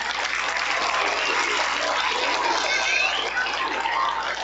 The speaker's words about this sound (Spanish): Aplauso a los amigos que van a participar. Y también un aplauso para ustedes que estuvieron presentes hoy día en este acto. Un aplauso más fuerte.